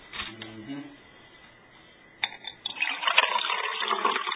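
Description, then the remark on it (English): A brief voice, then a splash and steady pouring as water streams out of a cup, fairly loud, continuing for a couple of seconds. “Now you can tell that one has water.”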